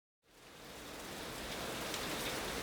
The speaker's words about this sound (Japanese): 一方、隣接する金沢駅東口商業ビル内部、天井からの雨漏りがポツポツとすでに水浸しの床に音を落としていた。